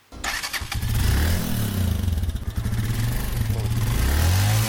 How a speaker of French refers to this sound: une activité a pris l'essor à Zegwa. Ce sont les mototaxis. Elle est devenue l'une des principales activités génératrices de revenus pour beaucoup de jeunes de la localité.